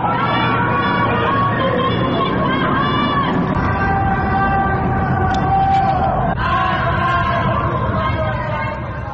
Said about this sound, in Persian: شنبه شب هم بعد از اعلام خبر درگذشت آرمیتا گراوند، مردم در برخی نقاط ایران از جمله تهران، کرج و شیراز از خانه‌هایشان شعارهای ضد حکومتی سر دادند.